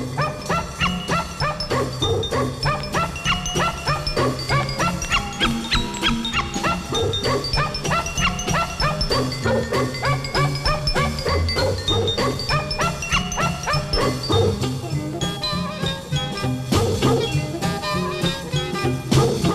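A dog barks over and over and whimpers, the yips and whines running loud for the whole stretch amid a dense, busy backdrop of sound.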